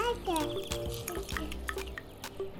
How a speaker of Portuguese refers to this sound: E agora vou preparar essa laranja que apanhei no quintal. E dar-te um pouco de sumo. Espera eu espremir.